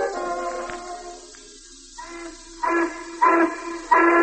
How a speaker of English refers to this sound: The whistle blows, it's time for work. The wheels of industry turn.